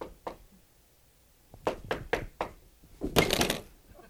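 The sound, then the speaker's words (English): Knocking on a door: one early rap, then a steady series of five knocks, ending in a louder, rapid flurry of raps. Fairly sharp, with no voices. “do they knock at the door?”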